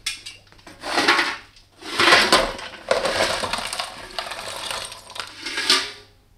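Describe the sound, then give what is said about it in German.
Coal lumps being tipped into a fireplace on a bitterly cold evening: several bursts of rattling, scraping clatter over a few seconds, each rising and fading, fairly loud, with no voices. “Ich wollte nur noch etwas Kohle für Ihren Kamin bringen.”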